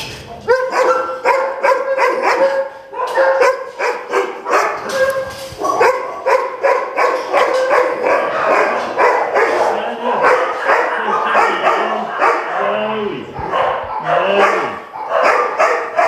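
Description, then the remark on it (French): Many dogs bark loudly and nearly nonstop at a facility housing many dogs in enclosures, their overlapping yaps and barks layering into a dense chorus with occasional higher-pitched yelps and whines mixed in. “J'ai pas besoin de vous expliquer où nous nous trouvons. Nous avons les chiens.”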